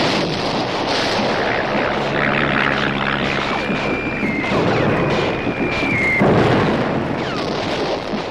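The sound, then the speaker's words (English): A loud, steady drone of an aeroplane engine fills the scene, mixed with heavy rumbling and booming noise, and a high whining tone rises briefly partway through. No one speaks. “Fought with bigger guns, better rifles, and also with inventions called U-boats and aeroplanes.”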